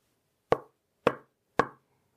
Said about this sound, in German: Was war das? Irgendetwas klopft an ihre Wand.